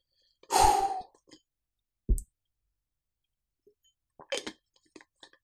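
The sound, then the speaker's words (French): A small sip with a breathy exhale, a short wet click, then quiet swallowing and lip-smacking sounds. Nobody speaks. “Petite gorgée de play.”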